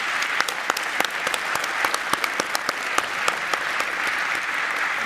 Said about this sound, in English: So that concludes today's session. Please give a big round of applause for all of the speakers who were here on stage today.